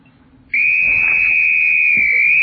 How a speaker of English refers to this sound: Now, the next time you hear this whistle, each one of you get one toy.